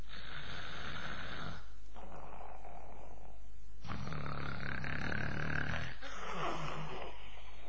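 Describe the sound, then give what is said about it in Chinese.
A storyteller's voice imitates the loud, rumbling, thunderous snores of Li Kui sleeping behind a large shield, four long rasping breaths in a slow steady rhythm, forceful with brief pauses between them. “李逵这呼噜啊，鼾声如雷，城上那些巡逻的南军都能听得清清楚楚。”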